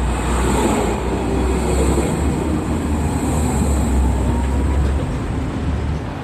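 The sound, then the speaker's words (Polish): Tram number 18 rolls steadily along its rails, heard from inside the car at a constant, fairly loud level: a continuous low rumble with rattling and a faint high electrical whine, between the Karlovy Lázně stop and the next stop, Národní divadlo. “Tramwaj numer 18. Jedziemy na premierę, czyli na chrzest książki.”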